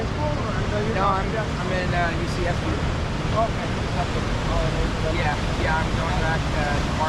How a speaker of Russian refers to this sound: О, какие волны-то. Красотища.